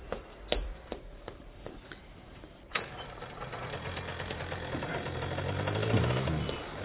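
A few sharp mechanical clicks and clunks, then a motorcycle engine starts up and runs with a steady, rattling rumble that grows gradually louder and nearer.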